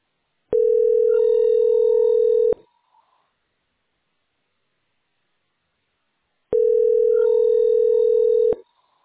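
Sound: telephone ringback tone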